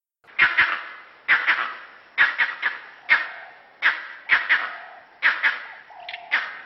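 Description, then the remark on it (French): A vervet monkey's leopard alarm call, its specific call for a predator on the ground: a rapid series of about a dozen loud, harsh barking chirps, some in quick doubles and triples, with no voices around. “Et quand c'est un animal terrestre, par exemple un léopard, c'est un autre cri.”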